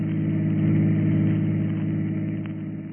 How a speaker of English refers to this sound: We find him now in his chauffeur-driven car, and with him is the lovely young girl, 15 years his junior.